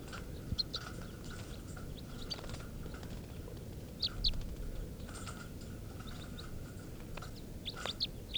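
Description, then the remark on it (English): Test recordings of two male birds, number 436 (type 3) and number 437 (type 4), singing in short, high chirping phrases that alternate and overlap, with brief sharp notes; the louder voice standing out is 437, over a steady low background hum. “These are test recordings of birds 436, the type 3 male, and 437, the type 4 male.”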